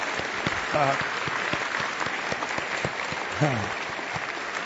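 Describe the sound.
Steady applause from an audience applauding the Lord and his word at the end of a Bible study on the book of Luke, a dense crackle of many hands clapping at moderate volume for several seconds, with a couple of brief voices rising through it.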